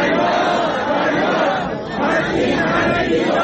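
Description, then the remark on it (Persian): A large crowd of protesting teachers in Shiraz on Sunday shouting in unison, calling for justice: a loud, dense wall of voices that rises and falls in steady chanted phrases, with a brief dip midway before surging again. “روز یکشنبه در شیراز هم معلمان فریاد دادخواهی سر دادند.”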